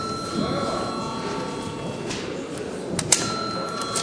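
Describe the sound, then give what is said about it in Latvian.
A parliament session bell, called for at the break in debates, rings steadily and continuously for several seconds, its tone held without a break, over a low murmur of voices and shuffling, with a brief clack near the end. “Lūdzu zvanu.”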